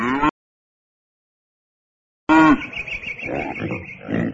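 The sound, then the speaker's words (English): Cows give two short, loud mooing calls separated by a couple of seconds of silence. The second moo is followed by a jumble of animal grunts and snorts. “They're cows.”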